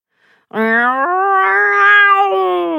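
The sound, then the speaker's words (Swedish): A cat lets out a long, drawn-out threatening yowl, loud, rising slightly in pitch and sustained for over two seconds with no one speaking. “Jamade kattrackan hotfullt.”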